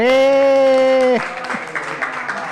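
A loud, sustained tonal cry rings out for about a second, then gives way to a steady round of hand clapping that continues to the end.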